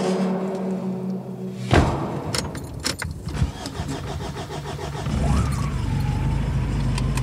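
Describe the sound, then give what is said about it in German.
A somewhat battered black pickup truck drives down to a farm over tall grass and thistles. Its engine hums steadily, then a heavy thud and a run of clattering rattles and bumps follow before the motor revs up louder and keeps rumbling. “Mit dem etwas ramponierten schwarzen Pickup fahren wir hinunter zur Farm.”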